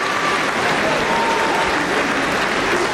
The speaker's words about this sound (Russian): Мы даем ему слово. Аплодисменты.